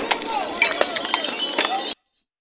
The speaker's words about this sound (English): Stones are getting thrown, bottles, smashed bottles are getting thrown.